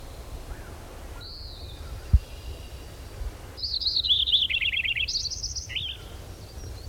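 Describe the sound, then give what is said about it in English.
A robin sings clearly in the background: a short whistled note, then a longer warbling phrase of rising and falling notes, over a low outdoor rumble with no talking. “Robin in the background”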